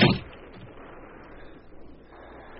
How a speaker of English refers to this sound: You shall close the door, Major, and leave me.